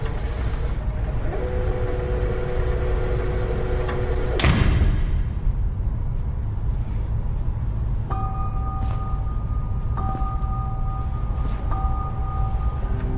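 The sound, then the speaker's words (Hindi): A door swings shut with one solid thud partway through, over a steady low engine-like rumble. Soft steady tones hum before it, and a repeating two-note beep follows. “दरवाजा बंद कर दें।”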